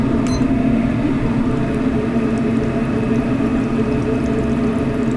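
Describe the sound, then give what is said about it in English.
Chebureki dough, made with milk, butter and salt, deep-frying in hot oil in a fryer for about five minutes: a steady, dense bubbling sizzle that stays constant and fairly loud throughout, with a low hum underneath and no talking. “In the fryer, Yelena is frying up chuburek”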